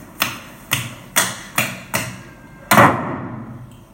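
A bedroom door is slammed shut in anger with a heavy bang that rings and fades, after five sharp, evenly spaced knocking thuds. No one speaks.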